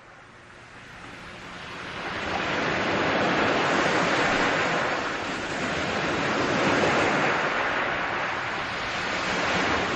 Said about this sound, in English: Glenn Gould's second excursion into contrapuntal radio was called The Latecomers. No train this time, but another semi-musical inspiration, the sound of the sea, sucking and boiling around the voices, sometimes drowning them.